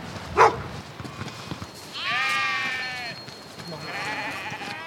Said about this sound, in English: Lots of sheep. Hundreds and hundreds and hundreds. Sheep everywhere you look.